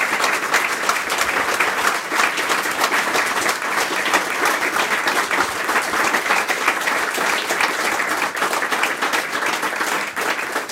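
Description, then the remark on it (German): Sustained applause from an audience for a talk-show guest fills the whole stretch, a dense, steady patter of many hands clapping with no talking over it. “Das ist Ihr Applaus.”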